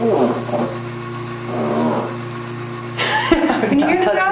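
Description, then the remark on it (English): A crocodile with its jaws taped shut, thrashing around, growls in a low, steady rumbling drone for a few seconds, then breaks off abruptly, while a constant high-pitched chirring of crickets fills the background. “Can you hear it growling? I can hear it growling.”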